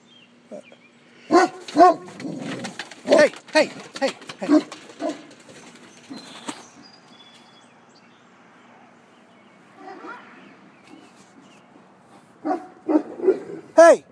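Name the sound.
dogs barking and playing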